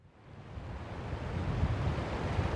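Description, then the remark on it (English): Water of the Penobscot River at Bradley rushes steadily along a bank, a dense, continuous wash with a deep low rumble that swells slightly louder over a few seconds, with no voices. “I'm standing on a little spit of land on the bank of the Penobscot River in Bradley.”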